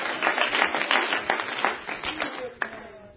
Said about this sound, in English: Somebody clap your hands and give God praise right now. Hallelujah.